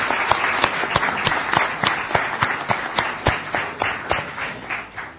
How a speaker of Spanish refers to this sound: A ver, completamos la ronda, a ver cómo le da el aplausómetro al ingeniero Juan Corompone, que es el cuarto integrante de la mesa.